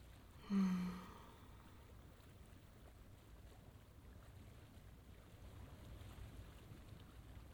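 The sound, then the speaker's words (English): Water in a bubble bath gives one brief, soft slosh near the start, then settles into a faint, steady low wash of moving water and bubbles. No one speaks. “All of the bubbles make this so nice.”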